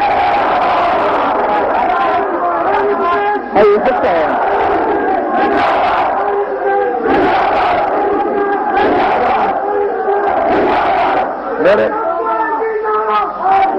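A large crowd at a religious gathering (majlis) chants religious slogans in loud, surging unison, voices rising and falling in repeated waves that fill the whole stretch without a break.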